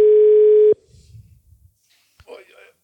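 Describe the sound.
A loud, steady telephone ringing tone sounds once for under a second and cuts off abruptly, followed by faint, indistinct voices in the background.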